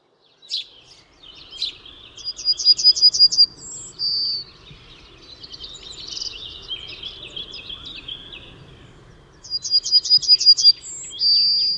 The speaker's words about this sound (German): Und Goldammer schliesst uns ihr Herz und sagt: Wie habe ich dich so lieb? Ja, Goldammer ist wirklich sehr attraktiver Vogel. Man könnte fast das Gefühl haben, die kommt in den Tropen vor, so gelb wie sie ist.